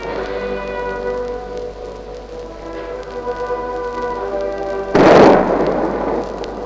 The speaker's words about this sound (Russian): Сейчас первый выстрел салюта.